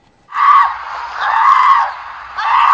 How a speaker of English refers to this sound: It was the sound of a woman screaming